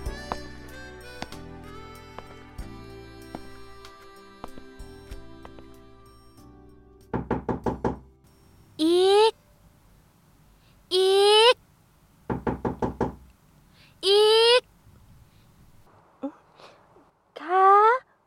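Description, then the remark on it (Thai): Two bursts of quick, sharp knocks on a bedroom door early in the morning before dawn, about four raps each, following soft background music, with bright rising swoosh-like tones sounding between and after the knocking. “จึงเดินไปเคาะประตูห้องเธอ”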